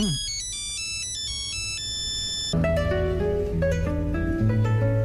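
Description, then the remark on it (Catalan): A classic Nokia mobile phone ringtone plays its bright, beeping monophonic melody, then continues as a fuller, louder arrangement with bass and chords. No one speaks over it. “O sigui, jo no sabia que aquest politó...”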